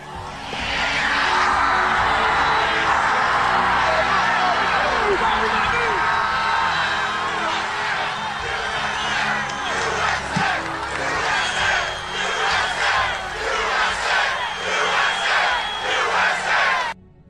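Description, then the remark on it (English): A large crowd rises to its feet, roaring and screaming continuously, with loud rhythmic chants of "USA" rising through the din, dense and energetic from start to finish before cutting off abruptly. “He stands up and screams to fight, fight, fight, and the whole crowd stands up. And they're screaming USA.”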